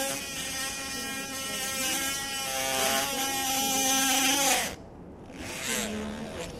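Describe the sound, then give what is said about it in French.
A high-pitched powered surgical saw whines steadily for several seconds during an operation with a buzzing, harmonic drone, then cuts off abruptly, followed by a brief softer whir as it restarts. “Voilà, tout petit coup de scie encore.”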